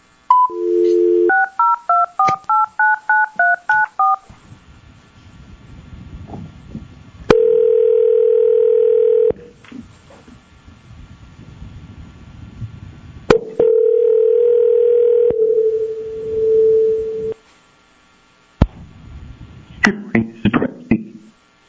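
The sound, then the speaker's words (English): A quick run of two-tone keypad beeps as a number is dialed to reach an attorney by phone, followed by two long, steady telephone tones separated by a pause, then brief clicks and faint noise. “And we will first go to 7 A, and I believe we are getting the licensee is going to be present, but we're getting attorney on the phone.”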